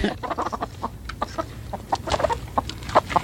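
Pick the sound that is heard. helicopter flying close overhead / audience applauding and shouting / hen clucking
hen clucking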